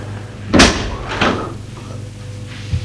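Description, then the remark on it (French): A door is shut by a young abbé (priest) with a loud, sharp thump, followed by a softer knock about half a second later and a faint click near the end, all over a low steady hum. “Et le petit abbé ferme la porte.”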